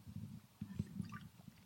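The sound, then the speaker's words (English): Soft gulps of someone drinking water because something is stuck in their throat, several wet swallows in quick succession with small liquid sounds between them, no talking. “Something's stuck in my throat. Give me some water.”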